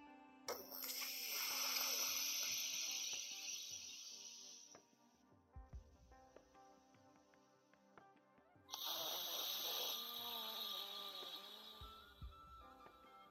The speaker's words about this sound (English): Still using the breath though. Left nostril breathing.